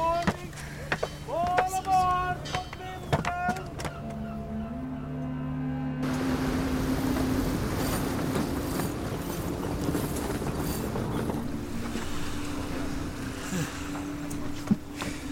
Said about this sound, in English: It's quite a sight. The harbor of Tuman Bay. See there? The chains rising out of the water. They are lifted at night to close off the harbor.